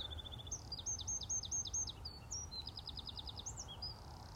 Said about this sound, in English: I suppose you would call them little brown jobs, as they say in the birding world. But from such a, well, I wouldn't like to call it drab, but an unassuming bird, the sound is really elegantly beautiful.